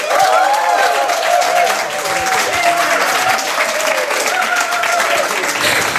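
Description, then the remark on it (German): Loud, enthusiastic applause from an audience welcoming an unplugged band that plays music of the 1920s to 1960s, a dense steady wash of clapping with some cheering voices mixed in, sustained without pause. “Bitte begrüßen Sie mit einem frenetischen Applaus”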